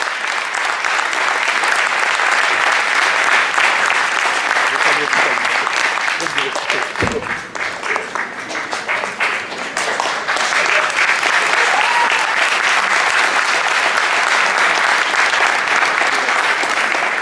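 Loud, sustained applause from a large audience at the FCP 2017 event, applauding the organiser's little brother, fills the whole stretch, a dense wash of clapping that dips briefly midway before swelling back up, with no one speaking over it.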